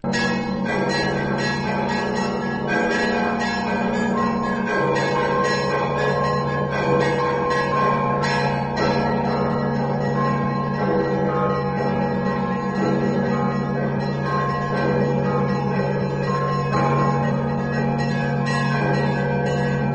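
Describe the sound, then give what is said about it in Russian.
Several church bells peal together from a belfry, loud, their overlapping strikes ringing in a steady, continuous cascade over a deep resonant hum, with no voices. “звуки льются со звонницы в храм, в дне сегодняшнем древность и вечность, снова звоны, слагаясь слова, повторяют, люби, человече.”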